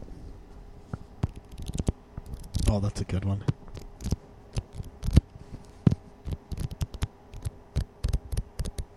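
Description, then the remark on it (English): Crisp rustling and crinkling of paper being handled, in sharp irregular bursts throughout, with a brief spoken remark partway through. “Oh wait, paper.”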